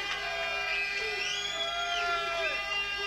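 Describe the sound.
A crowd cheers and whoops to show appreciation for a performer, with many overlapping voices shouting and rising and falling in pitch in a steady, dense roar that lasts about three seconds.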